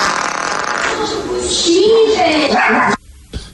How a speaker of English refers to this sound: of when you farted, which made Lulu bark and your wife yell